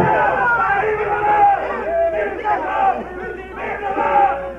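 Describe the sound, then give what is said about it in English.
A large group of troops and officers cheering and shouting together as their commander reaches his horse, a loud sustained roar of many voices with rising and falling swells, continuous throughout. “Through the pain that burned your nerves and punished your heart, you reached the horse and heard them cheer.”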